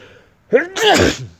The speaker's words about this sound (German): Pardon, jetzt musste ich mal kurz niesen.